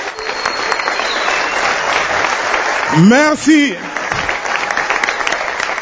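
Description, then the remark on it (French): Steady, dense audience applause fills the whole clip at an even loudness, with a single voice briefly speaking over it partway through. “Merci beaucoup, est-ce qu'on peut l'applaudir très très très fort”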